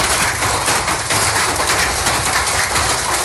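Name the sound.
hail falling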